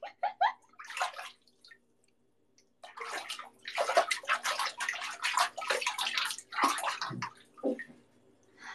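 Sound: water sloshing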